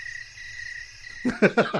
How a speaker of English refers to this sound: Although the crickets do make a beautiful noise in the evening, and it's like being in Spain. Yeah, they chirp. So that was really nice.